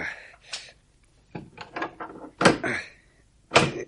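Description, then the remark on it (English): A bolted cellar door with recently fitted bolts being worked open: a series of sharp clacks and scraping thunks at an irregular pace, several bolts drawn back one after another, the last two strikes loudest, with no talking. “Yes, there's the door. If we can get some of this rubble out of the way. Those bolts are recent.”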